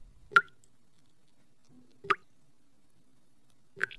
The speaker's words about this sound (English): All I hear is something dripping. It's the shower, Mr. Bell. The shower is dripping.